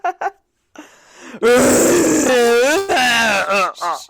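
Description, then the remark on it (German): A red deer stag roars, from the wildlife recording 'Bilder aus Wildtierland': a loud, drawn-out, harsh bellow that rises and then falls, followed by a shorter second roar, with a few brief grunts before it. “Zwei Minuten röhrender Hirsch.”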